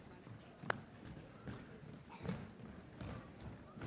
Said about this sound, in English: So let's stand up. And this is what I want you to do. I want you to stomp your feet like this.